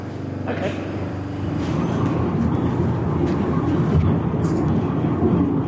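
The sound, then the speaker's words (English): A steady, droning rumble of a funicular railway carriage in Davos climbing its track up to 1,861 metres to the Hotel Schatzalp, with a low mechanical hum and faint rattles holding at an even loudness throughout, muffled voices blending into the background. “we took the funicular railway up to 1,861 metres to the Hotel Schatzalp.”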